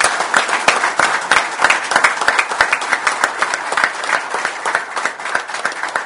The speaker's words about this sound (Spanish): y creo que la semana pasada los tres chicos demostraron que estamos en nivel, así que a ellos le voy a pedir un aplauso